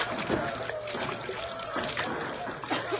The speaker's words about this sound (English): Now pour the acid from the batteries onto the plates.